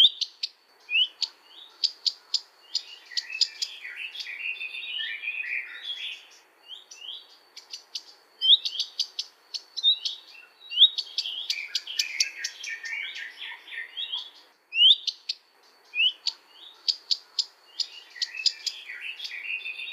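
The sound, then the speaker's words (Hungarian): A bird's alarm call in fear for its chicks, recorded in Transylvania: a drawn-out whistle followed by quick sharp clicks, repeating several times, with a garden warbler's busy warbling song running continuously behind it. “Fiókáit féltő hangjában a hosszú elnyújtott füttyöt rövid csettegések követik.”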